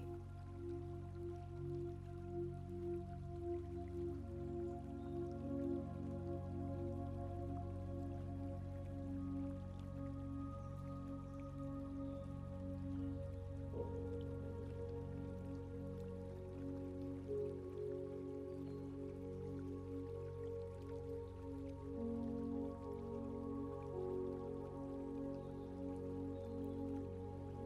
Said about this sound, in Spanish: Así como el riachuelo fluye suavemente, encontrando su camino sin prisa,